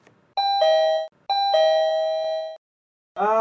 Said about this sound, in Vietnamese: Ông Hân, bà Hoan đang đôi co với cái chuyện hùn vốn cho bà Lan vay và không tham gia bảo hiểm xã hội tự nguyện tiếp, thì có tiếng chuông gọi cửa.